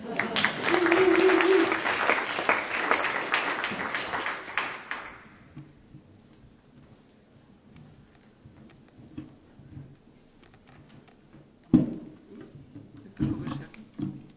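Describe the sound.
An audience bursts into dense, loud clapping for about five seconds before it dies away, leaving quiet shuffling, a few soft knocks and some low murmuring voices.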